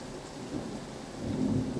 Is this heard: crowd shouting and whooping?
no